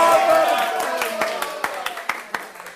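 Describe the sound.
A crowd gathered in a pastry shop applauds the fairy-tale dragon, its guest of honour, with sharp claps popping out irregularly and growing more distinct toward the end, layered over a dense murmur of voices.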